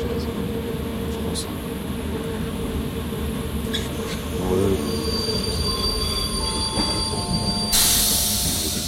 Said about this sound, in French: Le train s'est arrêté en pleine voie en raison d'un problème technique.